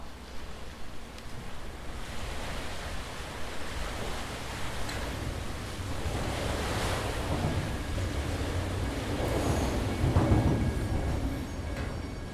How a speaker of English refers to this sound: … and I are standing down by the boat launch, recording the sound of the water and the passing trains